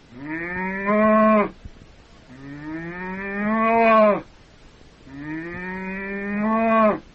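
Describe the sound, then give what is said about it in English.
A cow moos three times in a steady pattern, each long, rising call separated by a short pause, loud with no talking. “That's a cow.”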